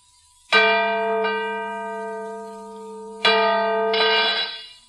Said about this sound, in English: Good heavens. The bell is cracked. Aye, that it has. But this is unbelievable. It was in perfect condition.